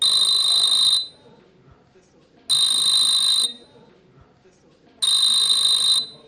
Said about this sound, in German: Das Klingeln, welches wir eben gehört haben, ist ein historisches. Ja, das ist tatsächlich von Telefonen, die aus den 30er Jahren noch erhalten geblieben sind und immer noch funktionieren und mit denen man damals von Tisch zu Tisch telefonieren